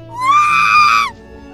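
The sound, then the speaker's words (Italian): A woman lets out a single loud, shrill scream lasting about a second inside the police headquarters in Turin. It rises slightly, holds steady, then cuts off abruptly, leaving only a faint low background hum. “Qualche minuto dopo, un grido.”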